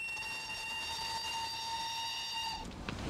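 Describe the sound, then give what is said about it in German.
A train's whistle at a railway station sounds one long, steady, shrill note, loud, then cuts off abruptly just before the end, leaving a brief rumble of background noise. No one speaks. “Wieso fährt der Zug nicht pünktlich ab?”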